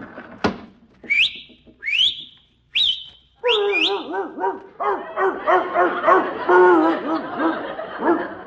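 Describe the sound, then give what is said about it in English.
Three quick rising whistles ring out as a person whistles out a window to tell a dog to bring in the morning paper, followed by the dog barking and yipping excitedly in a rapid, continuous burst. “I'll just whistle out the window and tell my dog to bring in the morning paper.”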